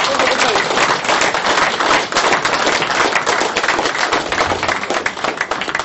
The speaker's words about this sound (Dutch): Dus ik vraag een warm applaus.